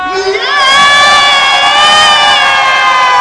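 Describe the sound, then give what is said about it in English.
A large crowd bursts into a loud, sustained collective yell all at once on a count of three, a dense wall of shouting voices that holds steady at full volume for a few seconds. “And at the count of three, you yell your lungs out.”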